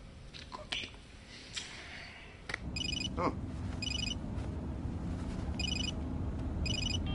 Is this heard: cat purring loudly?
no